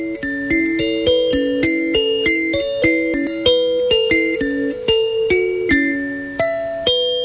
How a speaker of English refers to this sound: A kalimba?